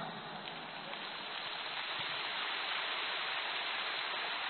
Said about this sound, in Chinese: 这么多鼓掌，你把它当成下雨的声音嘛就好了。